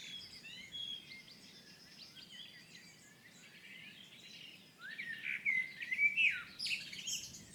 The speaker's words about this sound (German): Und die Amsel singt jetzt sehr lang eigentlich. Wundert mich ein bisschen. Ich interpretiere das jetzt mal so, dass die ihre erste Brut über die mit den Jungen hinter sich gebracht haben.